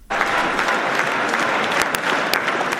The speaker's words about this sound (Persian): فردریش مرتز صدر اعظم آینده آلمان در میان تشویق هواداران خود بعد از اعلام نتیجه انتخابات اخیر آلمان